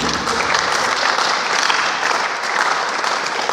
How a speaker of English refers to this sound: How about another round of applause for our speaker?